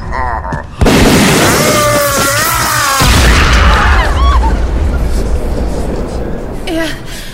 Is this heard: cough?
no